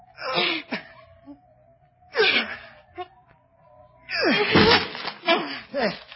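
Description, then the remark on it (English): A door is broken down by two men shoving together, in three bursts of heavy shoving, thudding and splintering, with effortful grunts and a faint, steady droning tone underneath. “can't you break the door down?”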